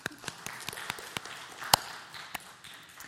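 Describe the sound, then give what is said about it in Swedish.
Brief, sparse applause given to the fathers present on Father's Day: a handful of scattered, irregular hand claps, fairly quiet overall with one sharper clap standing out, and no voices. “En liten applåd kan vi väl ge dem.”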